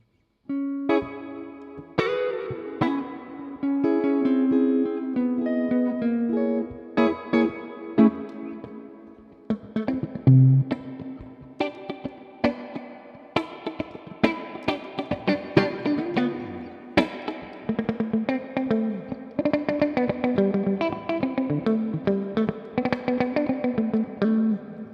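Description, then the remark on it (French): A guitar played through an amplifier with its reverb turned fully up, chords and picked notes smeared by long, washy ambient reverb and modulation, ringing on continuously and fairly loud with no talking. “Ce que j'aime bien, c'est que le propos n'est jamais noyé dans la reverb, tu vois ce que je veux dire ?”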